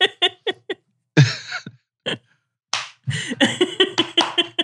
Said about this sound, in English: Just clapping, trying to get them to move.